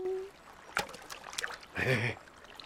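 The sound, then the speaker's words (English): A few short, irregular splashes and sloshes of water as a stick thrown from a bridge into a river thrashes about and then begins to float, followed by a brief muffled vocal sound over the moving water. “into the river they go! Coming to life, Stickman thrashes about, then smiles as he begins to float”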